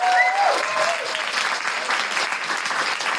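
A crowd applauds steadily, a dense, even wash of clapping that holds its loudness throughout, with a few brief whistle-like tones cutting through at the very start.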